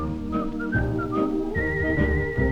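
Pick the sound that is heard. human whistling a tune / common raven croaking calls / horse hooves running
human whistling a tune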